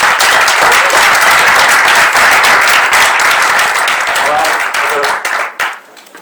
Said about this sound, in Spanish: Por favor, pujeu al escenari, un fort aplaudiment.